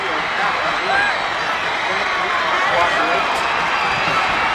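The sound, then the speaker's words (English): The McKinney North crowd on the far sideline at the high school football Crosstown Showdown cheers wildly after a missed 43-yard field goal gives them the win, a dense, continuous roar of many voices, staying loud and steady for the whole stretch with no pauses or single voice standing out. “McKinney North has 1 second on the clock, and they will win the second ever Crosstown Showdown, and the McKinney North crowd is going absolutely bonkers on the far sideline.”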